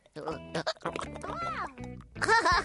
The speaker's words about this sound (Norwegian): Et glass vann. Det får kanskje hikken din til å forsvinne